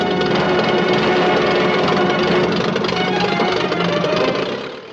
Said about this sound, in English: Bergman and his comrades run towards a small plane, its propeller already turning.